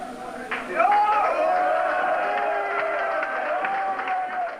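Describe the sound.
A rowdy crowd at a chaotic concert afterparty roars and cheers, skinheads in the audience giving Nazi salutes, with a raised voice shouting or chanting prominently over the steady wall of noise as SD party leader Anders Klarström takes the microphone.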